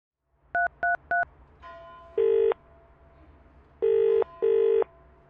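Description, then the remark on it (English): Three quick, evenly spaced telephone keypad beeps as 999 is dialed for an emergency call, followed by a line hum and a British-style double ringing tone repeating, clear with no voices. “Telephone 999.”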